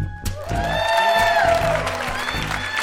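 A loud Toronto crowd claps steadily as Maddie Matheson makes his way on stage, while whoops and high, sustained cheers rise over the applause, keeping up a dense roar for the whole stretch.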